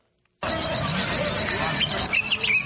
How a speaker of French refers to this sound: Une brise légère et les sons des oiseaux qui l'accompagnent sur la colline de Murambi, au sud du Rwanda, où est érigé un mémorial du génocide des Tutsis.